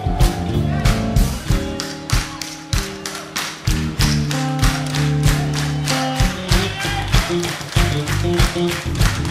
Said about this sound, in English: on Sunday morning, in church, they do a thing called soul clapping. You know anything about soul clapping? I'm gonna teach you real quick about soul clapping. It goes like this.